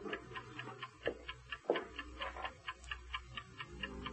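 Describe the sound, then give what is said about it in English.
The Karnoff pocket watch ticks steadily in quick, even beats, roughly four per second, soft, with no one speaking and only a low background hum. “But the Karnoff watch still ticks on.”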